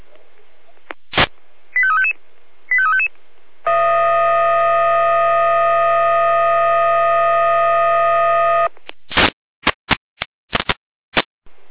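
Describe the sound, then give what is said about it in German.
Fire brigade dispatch alarm tones from the Jena dispatch centre, alerting the Freienorla fire brigade at 19:55 to a tree fallen onto a power line on Dorfstraße: a few short electronic beeps and two quick rising tone chirps, then a loud steady buzzing tone held for about five seconds, followed by a rapid string of sharp beeps. “Hier leitet schon die Jena mit Einsatzalarm.”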